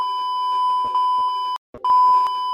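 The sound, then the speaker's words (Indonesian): A loud, steady high-pitched censor bleep holds for about a second and a half, cuts out briefly, then sounds again until the end, with faint muffled noises beneath it. “Sensor dong.”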